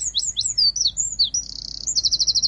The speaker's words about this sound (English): The wren